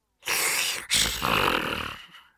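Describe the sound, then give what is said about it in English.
Two loud, rasping snores from a big, fat wolf asleep in bed follow one after the other, harsh. A short first snort is followed by a longer, drawn-out rattle, with no talking. “Soon he began to snore loudly.”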